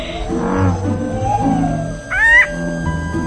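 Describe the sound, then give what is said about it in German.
An American bullfrog gives a series of deep, resonant, moaning calls that overlap steadily, broken mid-way by a brief, louder, higher-pitched wavering cry. “Der Ochsenfrosch macht mua, mua, mua, mua.”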